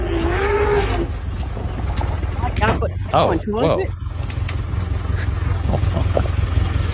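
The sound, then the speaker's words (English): An elephant attacking a truck and pushing it off the road: loud elephant bellows and wavering trumpet-like calls break out twice over a constant low vehicle rumble, with harsh crunching noise between the calls. “White elephant or when elephants had enough, and this is I guess another elephant attacking.”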